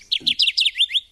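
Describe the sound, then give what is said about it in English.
A Kirtland's Warbler sings a loud series of about six bright, rapid chirping notes that climb in a quick, bubbling phrase lasting about a second. “There's a Kirtland's Warbler”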